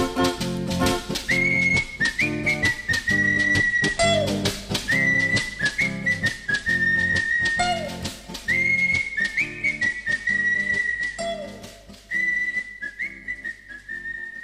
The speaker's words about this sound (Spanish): Somos tres chicos españoles, y silbando nos vamos así.